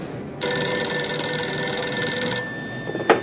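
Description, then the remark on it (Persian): A telephone bell rings steadily with a bright metallic tone for about two seconds, then cuts off, followed by a brief clatter like a receiver being picked up. “الو، مگه نگفتم هیچ تلفنی رو بس نکن؟”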